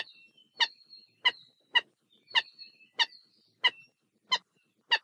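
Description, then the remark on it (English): A Hawaiian gallinule (Alaiula) gives a series of about eight harsh, chicken-like cackling notes at a steady, unhurried pace, with thin squeaky tones between them. Nobody speaks. “The Alaiula's voice can be described as a series of chicken-like cackling calls and croaks, and has traditionally been considered by some to be a bad omen.”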